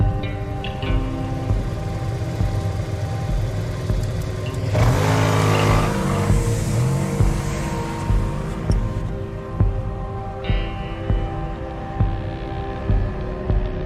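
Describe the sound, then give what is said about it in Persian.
The engines of two cars rumble, with a loud surge of revving around the middle as the vehicles pull in, then settle back to a steady idle hum. No one speaks. “خیلی نترسیده که فقط 2 تا ماشین و چند نفر اومد.”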